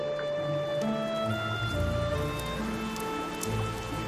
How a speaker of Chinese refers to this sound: 哇，下雨了！哎呀，镜子被破坏了。